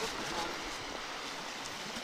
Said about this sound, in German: Das ist übrigens genauso beim Hören, wenn wir in Dezibel unsere Lautstärken messen, wie hier zum Beispiel die Wellen der Ostsee, dann sind die mitunter sehr laut.